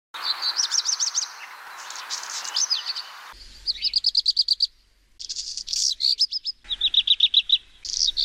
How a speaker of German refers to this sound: Und so hört sich der Hausrotschwanz an.